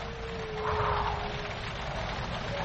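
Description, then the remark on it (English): Steady, dense rain hisses without a break, swelling slightly near the start, with a thin, faint whine drifting underneath. No voices are heard. “I can't sleep with all this noise. The rain is as contrary as I ever was.”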